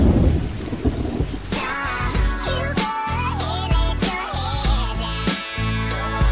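hailstorm with thunder

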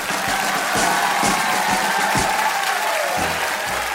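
loud applause and cheering

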